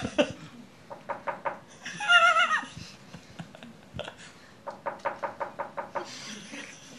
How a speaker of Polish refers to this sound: Jakie prorocze pukanie.